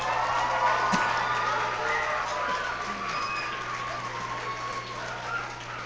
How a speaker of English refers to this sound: So one more time, let's give the cooks a hand, okay?